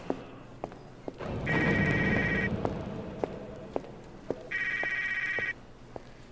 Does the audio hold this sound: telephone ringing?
yes